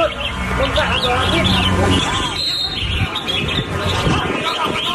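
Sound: parakeets chirping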